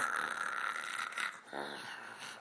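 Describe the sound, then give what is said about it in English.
A voice imitates a weird breathing noise heard on a hike: heavy, raspy breathing, a long, harsh exhaled rush that ends in a brief, throaty snort-like rumble, like a large animal huffing. “You know, it was like, you know, you hear this noise like this. Some kind of weird breathing.”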